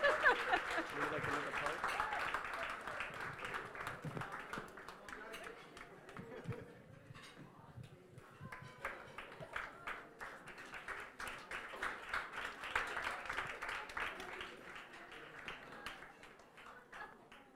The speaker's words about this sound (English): Once again, a big round of applause for the groom's mommy.